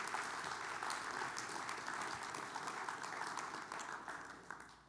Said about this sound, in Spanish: Así que, ¿por qué no le damos un fuerte aplauso a todos nuestros nuevos miembros?